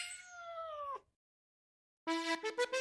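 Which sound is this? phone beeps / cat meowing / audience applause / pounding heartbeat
cat meowing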